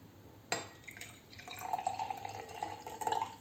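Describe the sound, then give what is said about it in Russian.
A sharp glassy clink, then water pours steadily into a glass, a bubbling trickle that rises slightly as it fills. No one speaks. “Возьмите два бокала, налейте.”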